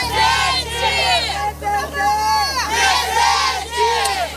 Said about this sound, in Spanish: Miles de personas han salido esta tarde a las calles de Río para protestar contra el uso excesivo de la fuerza y exigir la renuncia del gobernador de la ciudad, Claudio Castro, que, por cierto, sigue diciendo que la operación ha sido todo un éxito.